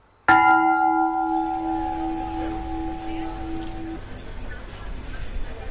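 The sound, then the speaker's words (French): A single loud church bell strike rings out, its rich metallic tone humming and slowly fading over several seconds against a steady background murmur. “Vous parliez tout à l'heure de 70 cloches en tout et pour tout dans la ville de Tournai.”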